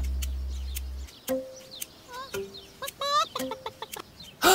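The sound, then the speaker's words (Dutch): A chicken clucks in a series of short, uneven bursts, clear, with a few higher squawky notes mixed in and no one talking. “Dat was het getok van een van Moe's kippen.”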